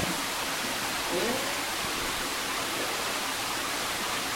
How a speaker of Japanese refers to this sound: さあ続きまして、滝の部屋というところにやってまいりました。滝の音が聞こえてきますね。